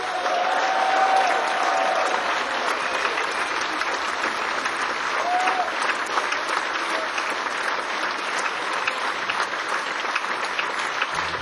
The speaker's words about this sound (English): Please give a big round of applause to our brilliant crew.